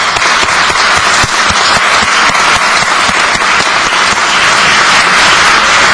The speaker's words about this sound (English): Please stand up in your seats if you are a veteran of the armed forces. They deserve our applause.